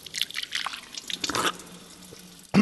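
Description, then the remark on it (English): Local mineral water in Bad Kissingen, Germany, pours and splashes into a glass for over a second, trickles to a quiet dribble, then ends with a sudden loud burst. No one speaks. “I'm starting my tour of Bad Kissingen with a taste of the local mineral water.”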